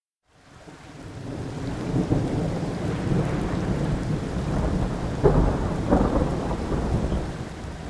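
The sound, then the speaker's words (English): Steady rain pours down while low thunder rumbles continuously, with a couple of louder rolling swells near the end; no voices, just the dense wash of a storm. “Look at the rain.”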